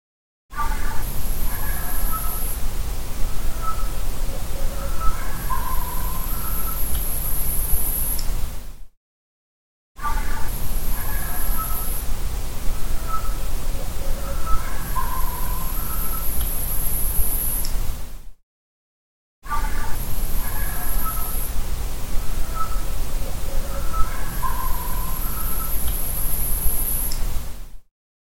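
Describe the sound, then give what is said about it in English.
Short, scattered barks sound over steady background hiss, topped by a thin, breathy whistle like an overblown flute. The same passage plays three times, separated by brief silences. “This next clip, it has the same kind of barks, but I think it becomes a little more interesting because you can hear kind of a whistle over it, and it sounds like a recorder or a flute being overblown, if you know what that sounds like.”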